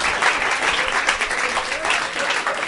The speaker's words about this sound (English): Stop clapping! Stop clapping!